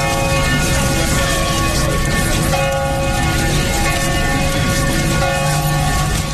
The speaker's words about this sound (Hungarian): Debrecenben délelőtt 9:30 megszólalt a harang.